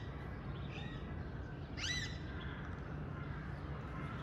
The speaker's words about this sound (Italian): Allora, amici, tra il cinguettio degli uccelli che sono liberi, dei pappagalli del palazzo di Golestan, qui vi presentiamo la Torre del Vento che avete appena visto.